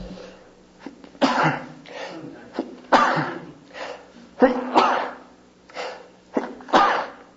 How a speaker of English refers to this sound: So our, excuse me a minute here, I'm going to have to sneeze.